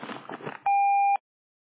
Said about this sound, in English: The voice messaging service has not detected a message. Please start recording your message after the tone.